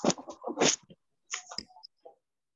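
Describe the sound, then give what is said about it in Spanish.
A small dog gives two quick bursts of sharp, high-pitched yapping separated by a short pause, picked up by a participant's open microphone, with no one talking. “Ahí está el perrito nuevamente.”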